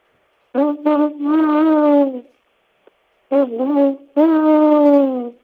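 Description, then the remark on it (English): A person imitates a great horned owl's hooting in two loud phrases, each with short hoots followed by a long drawn-out one, separated by a brief silence. “That's a great horned owl.”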